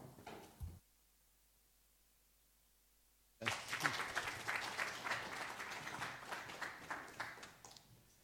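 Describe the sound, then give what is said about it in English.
After a short burst of sound and about three seconds of near silence, an audience breaks into sustained applause welcoming a speaker who has just been introduced, many hands clapping densely and loudly until the end. “I hope the clapping was for him, because I feel a bit of an intruder, almost an impersonator, and I'll try and explain to you that.”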